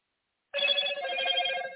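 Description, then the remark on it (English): A telephone rings during a live call-in show, with a steady, bright electronic tone that sounds suddenly from silence and holds for over a second without pause. No voices accompany it. “And my apologies, text messages and phone ringing when it is promoted that the show starts at 11, but we're working on the consistency of the show because everybody's not aware also.”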